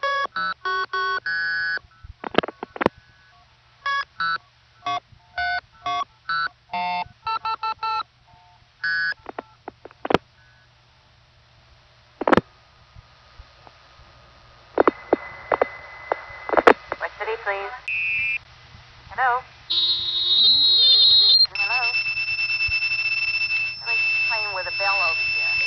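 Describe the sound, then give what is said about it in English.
Phone signaling tones from an out-of-tune synthesizer: rapid bursts of dual-pitched beeps like dialing, then sustained steady tones that shift pitch as the synthesizer is adjusted, some slightly wavering and out of tune. “Then, when the directory assistance operator is on the line, I will try to whistle off, but discover that my synthesizer is out of tune, and she'll hear me adjusting it and make a comment.”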